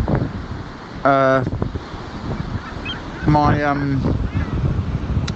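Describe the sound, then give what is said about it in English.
Windy seaside ambience in Dover: a steady rush of wind buffets the air throughout, while two loud honking bird calls ring out, one brief and one longer. “I'm by the sea.”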